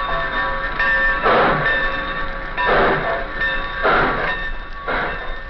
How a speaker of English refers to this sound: The scene opens at the Centerville Railroad Station.